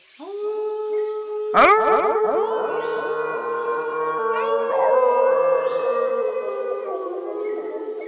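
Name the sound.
wolf pack howling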